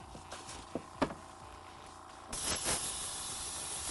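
A spray can hisses steadily as red paint is sprayed onto prepped shoes, with a few sharp clicks and taps early on, then the spray grows louder and fuller for the last stretch. No one speaks.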